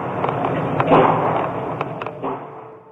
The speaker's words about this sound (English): The sound of gunfire was caught on a student's cell phone.